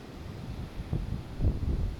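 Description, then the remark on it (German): Low, steady rushing of ocean surf, with soft swells rising and falling and a couple of fuller wave surges toward the end, fairly quiet with a windy rumble. “Lass das Meeresrauschen in dein Ohr.”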